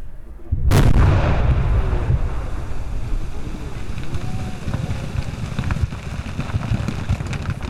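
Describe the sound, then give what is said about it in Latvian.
A single deep, powerful blast of explosive charges, set in about 40 holes drilled in river ice, booms out, followed by a long rumbling roar of debris and water settling over several seconds outdoors, with steady wind noise throughout. “Ledus spridzinātāji saurub caurumus 40 lādiņiem.”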